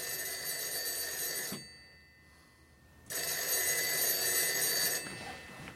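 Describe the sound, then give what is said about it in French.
An old-style telephone bell rings loudly in two long metallic bursts, separated by a brief quiet pause, with no voices over it. “Il faut m'excuser, mais c'est toujours comme ça ici. Le téléphone n'arrête pas.”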